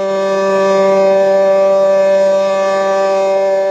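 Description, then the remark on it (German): A loud, steady Swiss water alarm siren, which sounds when a dam breaks, wails at a constant low droning pitch with strong harmonics. It sounds without pause for nearly four seconds. “Wenn also eine von diesen beiden Staumauern bricht, dann geht in der jeweiligen Region der Wasseralarm los.”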